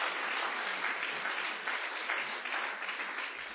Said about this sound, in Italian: Facciamo un altro forte e scrosciante applauso a Gesù.